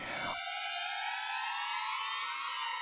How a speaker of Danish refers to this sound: Så går alarmen, ind lyner der et team af mennesker.